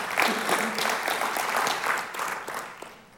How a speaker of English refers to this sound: Never give Jesus a golf clap. If you're going to give him a clap, give him a good one.